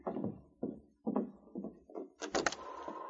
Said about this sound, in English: They're almost to the door. I'll open it.